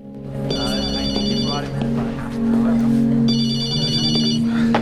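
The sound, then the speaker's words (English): Mac's mobile phone rings at a police station in two bright electronic bursts with a pause between them, clear over a steady low background hum. The call comes from a number dialled on a cordless phone. “At the police station, Mac's mobile phone rings.”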